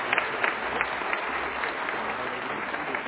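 An audience applauds a children's choir steadily for a few seconds, dense overlapping hand claps from a crowd, moderately loud with no voices standing out.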